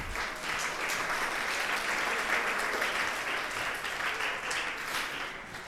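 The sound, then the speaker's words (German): An audience applauds steadily for several seconds for three volunteers called up on stage, a dense wash of many hands clapping at even loudness throughout, with no individual claps standing out and no one talking over it. “Super, ein Applaus für die drei.”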